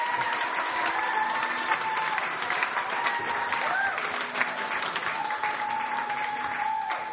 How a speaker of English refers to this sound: Let's give them a great round of applause. They do a fantastic job.